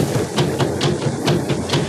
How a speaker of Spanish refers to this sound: El rumor que llega hasta sus oídos los llena de esperanza y de zozobra fundidas. Es un eco extraño y retumbante de tambores selváticos. Sí, son timbales, no tambores.